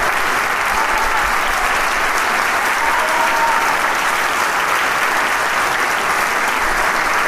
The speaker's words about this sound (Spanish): sale por un momento junto con el director, mientras el aplauso continúa aquí en la sala rebosante.